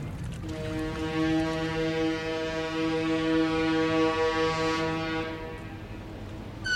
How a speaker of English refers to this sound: Dawn, the waterfront.